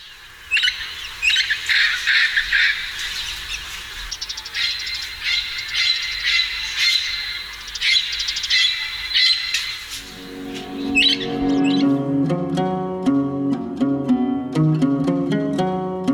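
Harsh, repeated bird squawking calls fill the first ten seconds, fairly loud with no talking, before melodic music takes over and the calls fade out.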